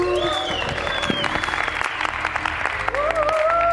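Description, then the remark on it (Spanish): Steady audience applause at a live recording about cryptocurrency fills the whole stretch, a dense wash of clapping with scattered cheers and a few whistle-like tones rising over it, loud and continuous throughout. “Aplauso, aplauso.”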